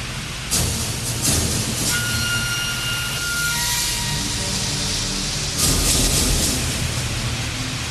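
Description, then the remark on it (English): Loud bursts of hissing steam from a train's brakes, one near the start and another later, over a steady rumbling engine with faint metallic squeals in between. “Steam hisses from the train brakes.”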